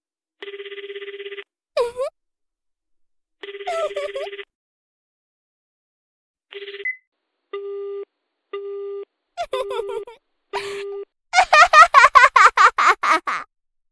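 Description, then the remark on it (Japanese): A phone rings for an incoming call from the listener's girlfriend, left unanswered: loud electronic buzzing tones in repeated bursts with short gaps, a few warbling chirps between them, ending in a quick run of bright trilling pulses. “先輩は大事な彼女の電話に出るよりも私におちんちんしゃぶってもらう方を選んだんですね。”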